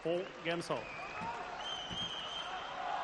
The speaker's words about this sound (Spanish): Mira, os cuento ahora la anécdota esa de Rafa limpiando, que no sé si os va a emocionar tanto como yo sea, mientras el Carpena no deja de gritar Rafa.